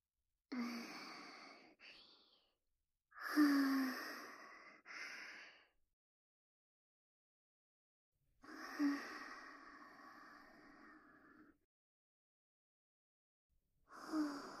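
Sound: breath being blown softly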